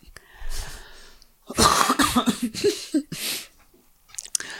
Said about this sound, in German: Jetzt muss ich so husten.